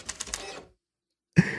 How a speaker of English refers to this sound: Oh, printer's still working though. Oh, there we go.